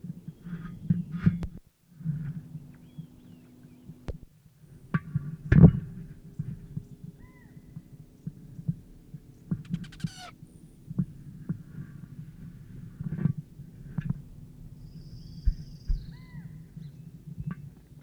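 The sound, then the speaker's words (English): Bird dive and flight sounds: a low, throbbing whir of wings runs throughout, broken by sharp clicks and snaps, with a brief higher buzzing burst partway through. No one speaks. “Dive and flight sounds at 9 o'clock.”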